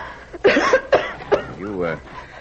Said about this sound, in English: You'll have to watch that. You'll have to watch that. You'll have to watch that. The cough. Oh, it'll be all right.